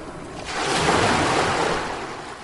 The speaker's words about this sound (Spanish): El Océano Atlántico.